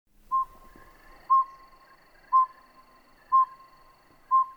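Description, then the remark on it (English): A recorded small owl call played back: five short, clear whistled toots at a steady, even pace, about one per second, standing out over a faint background hiss. “We start with the vocalizations of the small owls and with the vocalizations of the big owls, because the big owls will eat the small owls, so we don't want to play the big vocalizations first because it'll scare them away.”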